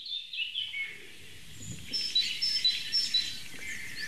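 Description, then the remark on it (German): A tit sings high, thin notes in a steady repeating series over a soft rustling outdoor background with no one talking. “Cool, Meise.”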